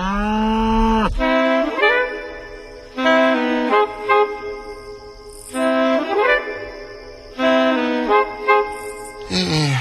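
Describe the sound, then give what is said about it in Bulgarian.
A cow moos loudly, four long bellowing calls repeating every few seconds with short pauses between them; no one speaks. “Значи, ето ти овцата, аз кравата, айде кравичка.”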